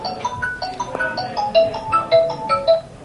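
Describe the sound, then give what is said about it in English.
A phone ringtone plays a bright, repeating electronic melody of short tonal notes in a steady rhythm, fairly loud, with no one speaking over it. “By the way, that they're going to put your phone into quarantine, Rabbi, because that sounds like Chinese.”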